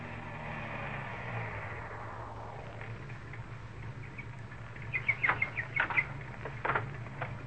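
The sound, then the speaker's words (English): A car drives along with a steady, low engine rumble and road noise, the hiss easing after a few seconds while light clicks and rattles sound near the end. No one speaks. “I've got to drive to Centerville tomorrow, and if the dog's around, I'll take it out in the country and lose it.”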